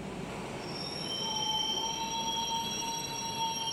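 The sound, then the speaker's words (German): A train pulls into platform 1 of a busy station and comes to a stop, rolling in with a steady rumble while its brakes squeal in sustained high, piercing tones, loud, with no voices present. “Gerade fuhr ein Zug ein und blieb mit quietschenden Bremsen stehen.”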